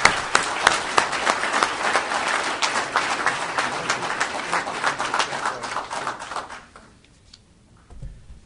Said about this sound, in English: He does a terrific job and makes all this happen so smoothly and seamlessly. Well-deserving. Let's give him a big round of applause again.